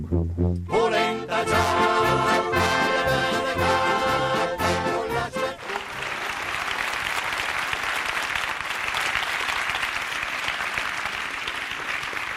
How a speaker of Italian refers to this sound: Sala Polisport di Olivone, gremita di centinaia di blegnesi, questo è il loro applauso, l'avete sentito, è qui, soprattutto qui, che si gioca il futuro del Parcadula.